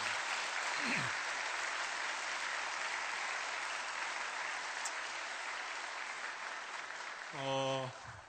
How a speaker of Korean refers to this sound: 자, 우리의 찬양받기 합당하신 그분 앞에 다시 한번 박수로 영광 돌리겠습니다.